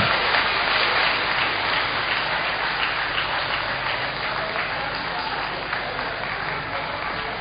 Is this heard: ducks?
no